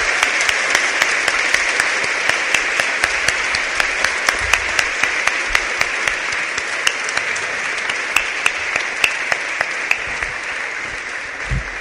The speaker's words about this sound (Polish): Kochani, ale przypomniały mi się takie oklaski, te za wczesne.